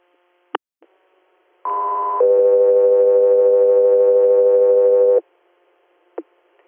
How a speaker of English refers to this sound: Professor Ayers, stand by for tones.